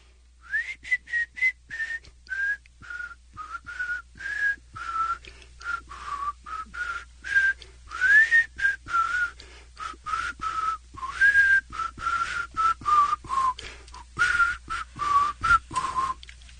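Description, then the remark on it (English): A person whistles a song tune of short, choppy notes with frequent breaths between them, moving up and down in pitch for about sixteen seconds, clear with no talking. “See, I can't whistle either, so maybe.”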